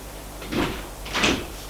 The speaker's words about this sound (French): La porte s'ouvre.